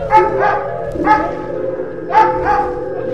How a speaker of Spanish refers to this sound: Esos perros hambrientos y con furia están dispuestos a atacar.